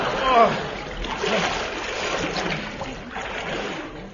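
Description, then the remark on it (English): A horse plunges into deep water with a big splash, followed by steady churning and sloshing that carries on for several seconds, fairly loud. “My horse can only swim on his back.”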